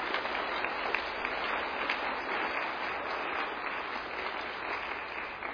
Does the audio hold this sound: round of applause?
yes